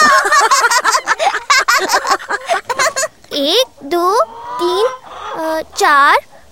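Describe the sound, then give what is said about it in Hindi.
Six chickens at their coop cluck in a quick, busy burst of overlapping calls, then let out several longer, drawn-out, loud squawks. “और हम 20 कदम में मुर्गियों तक भी पहुंच गए।”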